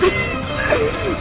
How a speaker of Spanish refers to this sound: ¡Gato! Aquí.